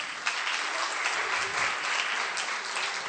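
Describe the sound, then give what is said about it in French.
A crowd claps steadily at the end of a Christmas show, applauding the children who prepared it: dense and continuous, a bright wash of many hands with a few sharper individual claps standing out, holding at an even level throughout. “On les applaudit une dernière fois.”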